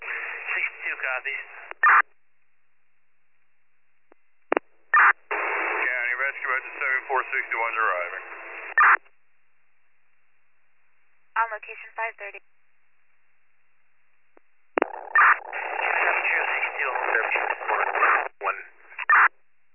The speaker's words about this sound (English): Engine 7462, that was complete static.